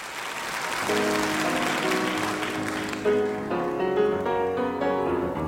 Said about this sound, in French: Alors c'est un tonnerre d'applaudissements, la salle se lève